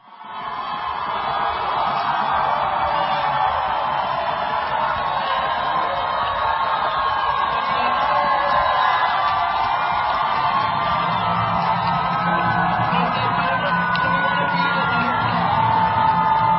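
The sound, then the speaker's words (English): A large crowd cheers and whoops continuously, a dense, steady roar of many voices with scattered shouts and yells rising above it throughout. “So there are illegal aliens, leftist Antifa, cheering the American flag being taken down, the Mexican flag being run up.”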